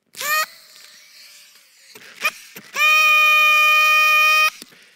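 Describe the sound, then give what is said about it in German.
Loud, buzzy toots from a group tooting like trumpets in place of a drumroll before a birthday announcement: a short blast, a few scattered bursts, then a long steady blare lasting nearly two seconds at one bright, high pitch. No talking. “Wir tröten und dann sage ich, wer hat heute Geburtstag?”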